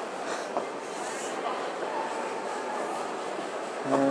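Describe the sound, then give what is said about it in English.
A train at a railway station: a steady wash of rumbling and hissing engine noise with indistinct voices in the background, and a brief tonal squeal right at the end. “I'm trying to find my train now.”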